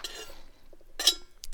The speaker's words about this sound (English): Sorry, I'm drinking water today. I forgot to drink water for a few days, and it was kind of like, oh no! So I'm trying my best to remember to drink water, and not just tea.